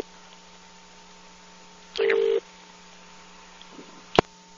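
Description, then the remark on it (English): A single short electronic beep from a new telephone putting a caller on hold, steady and mid-pitched, stands out over a faint background hum, followed a couple of seconds later by a brief sharp click. “Got this new phone, man. It's awesome. It makes little noises like that. I can put you on hold.”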